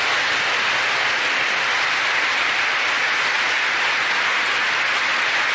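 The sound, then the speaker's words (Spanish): Sustained applause from about 6,000 attendees, victims of the Colombian conflict from 32 departments, a dense, even wash of clapping that holds steady and loud for several seconds with no voices standing out. “Son los aplausos de esos 6.000 asistentes, víctimas del conflicto de 32 departamentos.”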